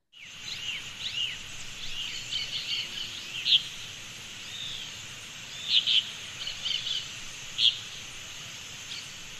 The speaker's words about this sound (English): We can hear the rushing of the water that wasn't so audible over the din of the birds before.